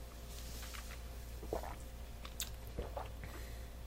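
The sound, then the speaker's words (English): Quiet sips of whiskey mixed with water: a few soft, wet mouth clicks and slurps scattered over a few seconds against a faint steady hum, with no one talking. “Well, let's give it a little sip, see what we got out of there.”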